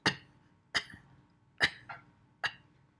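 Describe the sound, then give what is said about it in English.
Four sharp coughs in a steady rhythm, each a harsh burst trailing off quickly, with no talking in between, given at the very end of a long exhalation through the mouth to push out the remaining breath. “Cough at the very end.”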